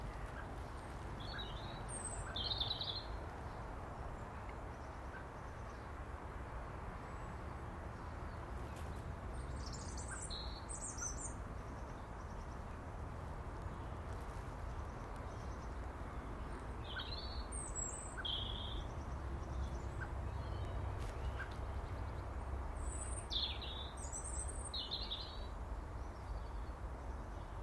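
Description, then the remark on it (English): A blackbird calls in a garden on a fine, dry, sunny March day, pecking at a bit of bread and scratching its head with its foot claw; short bursts of bright chirps recur every several seconds over a steady low outdoor rumble, with no one talking. “Mr. Blackbird picks at a wee bit of bread and stops to give his head a scratch with his foot claw.”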